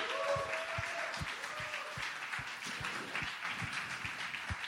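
Steady audience applause, a dense wash of many hands clapping at an even loudness throughout, with soft low thumps recurring at a regular beat underneath.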